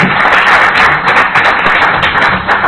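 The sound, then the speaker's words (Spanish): An audience applauds a guest speaker loudly and steadily, a dense, crackling wash of many hands clapping that holds for a few seconds with no voices over it. “y un aplauso para él, que tiene la valentía de venir.”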